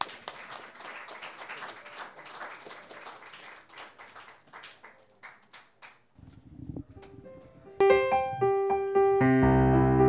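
A crowd applauds steadily for about five seconds, welcoming a pianist and songwriter to perform, then the clapping thins and fades; a low hum follows, and bright sustained instrumental notes come in loudly at the end.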